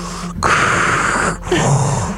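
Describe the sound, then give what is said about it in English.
Someone imitates heavy breathing right into the microphone: two long, loud, rasping breaths, one drawn in and one pushed out, breathy with a brief pause between them. “Is it really him breathing into the mic?”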